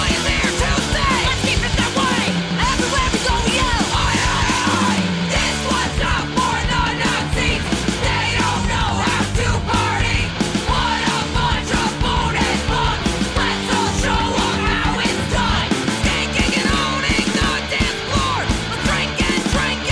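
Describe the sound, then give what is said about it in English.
Loud, fast punk rock by a three-piece all-female punk band from Connecticut, with driving distorted guitars and pounding drums, topped by shouted group vocals yelling Oi chant-like lines throughout, dense and constant from start to finish. “Now that was …, coming off … by ….”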